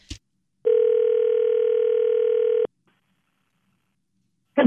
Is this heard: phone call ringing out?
yes